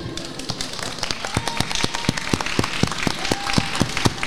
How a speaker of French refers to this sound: Et je nous invite à applaudir l'amicale de l'établissement, je vous prie.